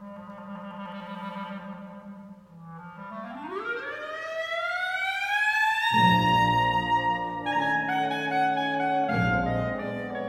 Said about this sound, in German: Da hebt die Klarinette an. Ein Glissando. Wie eine langgestreckte Sirene in die Höhe gezogen.